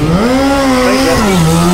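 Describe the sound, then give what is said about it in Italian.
Loud motorcycle tires skidding on a road during a test ride, a continuous harsh whine with engine roar that wavers in pitch for nearly two seconds, with no voices. “Oh! La moto! Ma come?”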